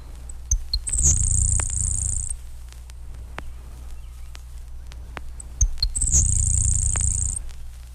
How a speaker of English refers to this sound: A single high trill of the grasshopper sparrow is even more insect-like. To show its complexity, however, the last song will be replayed at 1/4 speed and thereby be reduced in pitch 2 octaves.